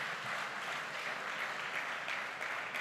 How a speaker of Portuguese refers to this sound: Pode aplaudir Jesus, glória a Deus.